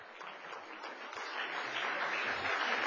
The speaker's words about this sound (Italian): Applausi.